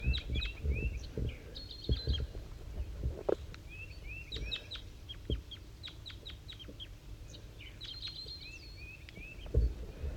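Two birds, one of them a wild bird up in the top of a dead pine, trade repeated short calls back and forth at 7:50 a.m.; the other bird's voice is slightly higher-pitched and the wild bird's lower, with brief bursts of chirps over low rumbling and occasional thumps.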